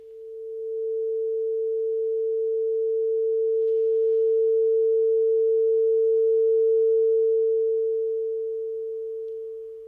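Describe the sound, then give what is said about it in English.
A simple glass tube with a little steel wool inside, heated over a flame, sings a single steady low-pitched hum. It swells in over the first second and holds loud and unwavering for about ten seconds before easing slightly. The air in the tube repeatedly heats, expands, cools and contracts, creating the vibration. “This is a simple glass tube with a little bit of steel wool inside.”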